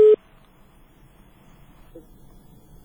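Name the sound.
telephone line tone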